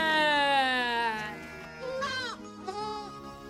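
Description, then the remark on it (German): A sheep in a barn bleats in a long, wavering, goat-like call that trails downward, followed by two shorter quavering bleats, fairly loud. “Und warum meckerst du so”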